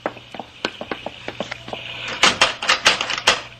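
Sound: locked door being tried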